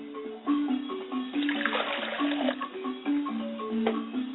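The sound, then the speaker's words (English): Water pours steadily into a glass as an offering for a father's spirit, a continuous trickle that swells briefly in the middle, with soft sustained tones ringing beneath it and no voices. “I pour a glass of water for my father's spirit, and I say, Ashe.”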